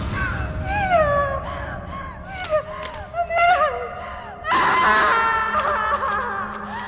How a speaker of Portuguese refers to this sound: Era pra acontecer isso? Por que ela tá gritando como se estivesse morrendo?